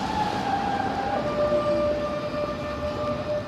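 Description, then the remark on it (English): A tram rolls along the busy Bahnhofstrasse shopping street in Zurich, Switzerland, its steel wheels letting out a steady high-pitched squeal over a constant rumble of traffic and city noise, loud throughout. “Now a busy street with trams and shoppers, the 1.2-kilometre-long Bahnhofstrasse was laid out in 1865.”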